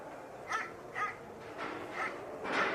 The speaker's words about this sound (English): You got a dog? It's my neighbor's dog.